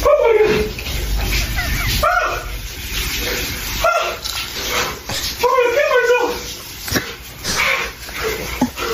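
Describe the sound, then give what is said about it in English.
A man lets out repeated high yelps and whimpering gasps while taking an ice-cold shower, loud over steady rushing shower water, the cries coming in uneven bursts throughout. “He's taking an ice cold shower.”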